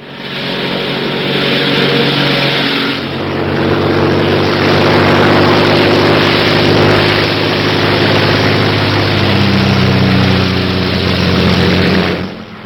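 The propeller engine of a Royal Air Force airplane drones loudly and steadily in flight over Dover, a continuous rumble with a low throbbing hum that dips briefly near the start, then holds for the whole stretch.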